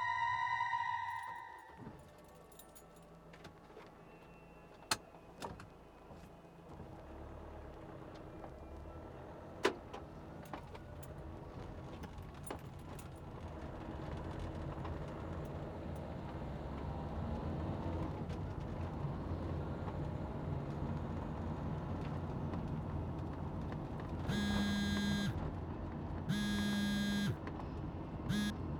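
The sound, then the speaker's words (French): A car driving, heard from inside the cabin: a steady low road and engine rumble that builds up, with a couple of sharp clicks and three loud warning beeps near the end. “Oui, oui, je suis au volant, ça coupe.”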